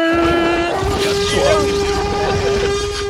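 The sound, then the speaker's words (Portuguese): A monstrous, blaring horn sound effect from a Jurassic Park scene, mixed from a ship's horn, geese and other sounds, holds one low, buzzy pitch for about three seconds, loud and unbroken, with a rough, noisy rumble churning beneath it. “passar uma buzina de navio, tem ganso, tem um monte de coisa ali misturado”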